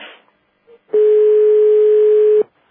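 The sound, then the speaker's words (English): A steady electronic tone on a conference call line, an entry or exit tone from another phone system, sounds for about a second and a half over faint line hiss, preceded by a short soft blip, with no one talking. “I can hear entry and exit tones for other phone systems.”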